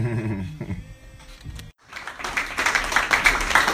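A short tonal, buzzy passage gives way to a brief silence, then an audience breaks into dense, steady applause, many hands clapping together and building slightly louder toward the end.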